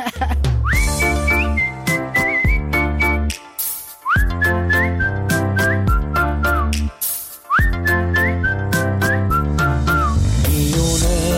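A person whistles a bright, lilting tune over steady instrumental backing, each phrase opening with a rising slide; the melody repeats in three similar phrases, loud and close, with no talking.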